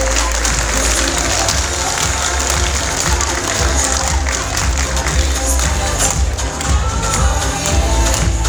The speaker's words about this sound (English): On applaudit, s'il vous plaît. On applaudit.